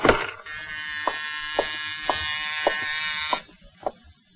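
An apartment doorbell rings early in the evening, buzzing in one long, harsh electric drone lasting about three seconds, with a faint regular ticking running through it, followed by a few soft clicks as it stops.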